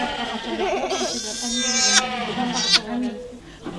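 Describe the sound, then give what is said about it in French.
Several goats bleat in overlapping, wavering cries, some louder than others, with a couple of sharp rustles or clanks in an echoing birthing barn where about 400 goats are due to give birth. “Donc là, on va avoir environ 400 chèvres qui vont mettre bas.”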